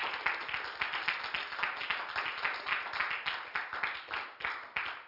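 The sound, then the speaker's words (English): An audience at a church service claps their hands in praise of the Lord, a dense, steady round of many overlapping claps at moderate volume for several seconds, with no voices above it. “If you will, give the Lord a hand clap of praise.”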